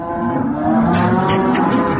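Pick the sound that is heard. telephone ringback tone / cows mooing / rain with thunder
cows mooing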